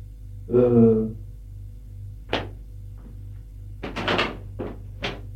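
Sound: door being opened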